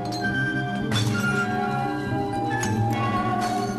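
Glass pop bottles break in a few sharp crashes spread over several seconds, each leaving a bright ringing tail of shattered glass, fairly loud with no one speaking.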